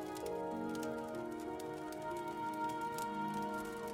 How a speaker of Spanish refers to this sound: Y te relajas mientras escuchas el fuego crepitar.